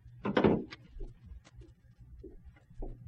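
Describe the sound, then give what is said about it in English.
A door creaks and clunks open at night with a loud burst of rattling at the start, followed by a few softer knocks and clicks as it settles, over a low background hum. “The door's opening.”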